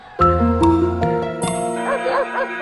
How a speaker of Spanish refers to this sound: Para simular mejor, organizó a los perros de la población insurgente y los ató a las cuerdas de las campanas de la iglesia, de tal manera que el repique se mantuvo mientras ellos se deslizaban por la vera del río.